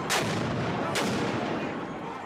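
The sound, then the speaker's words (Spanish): Two sharp, loud bangs about a second apart burst over a dense, roaring outdoor din: fireworks set off by protesters amid a noisy street crowd during violent May Day workers' protests in Seattle on a Sunday night. “Las protestas por el Día de los Trabajadores en Seattle se tornaron violentas el domingo por la noche cuando los manifestantes encendieron fuegos artificiales y arrojaron piedras y cohetes Molotov a la policía.”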